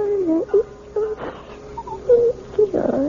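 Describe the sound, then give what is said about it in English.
A 1-year-old baby girl babbles and whimpers in short, high, wavering bursts, several soft vocal sounds separated by brief pauses, with a fuller whiny cry near the end. “You sound like a happy baby to me,”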